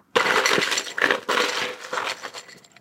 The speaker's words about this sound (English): First thing you do is put some ice in one of the pint glasses.